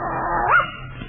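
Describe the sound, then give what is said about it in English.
A dog named Slewfoot gives a single drawn-out, rising yelp that slides into a whine, fairly loud, with no talking around it. “what a lovely dog.”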